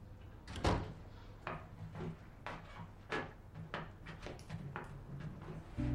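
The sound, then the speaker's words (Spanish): The front door of a home in an apartment block opens with a series of knocking, clattering thumps and creaks, a loud bang near the start followed by several lighter scrapes and taps, with no one speaking. “Oye abrirse la puerta de entrada.”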